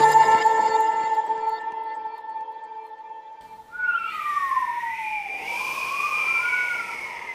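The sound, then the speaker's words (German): A sustained tonal chord fades out, then wind howls over snowy terrain with a whistling tone that glides up and down in pitch over a steady hiss, moderately loud and without any voices. “Ja, das ist das Geräusch, das uns als Wintersportler eigentlich immer Sorge bereitet, der Wind.”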